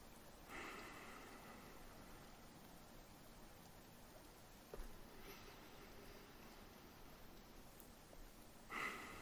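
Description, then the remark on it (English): Slow, deep breathing, with about three soft airy breaths spaced a few seconds apart against a quiet hiss, and no talking. “Listen to the sound of my breathing.”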